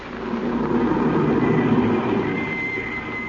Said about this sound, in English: And suddenly, a car drove up.